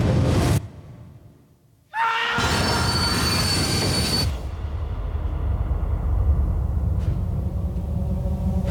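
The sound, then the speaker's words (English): A train rumbles along the rails, dips briefly quieter, then lets out a loud, shrill metallic wheel squeal lasting a couple of seconds before settling back into a steady rumble. No one speaks. “I see evil on this train.”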